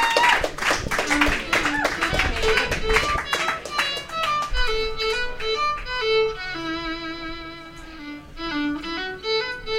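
A burst of audience clapping fills the first few seconds, dense and steady, then thins out as sustained pitched notes, like a melody being played or sung, take over.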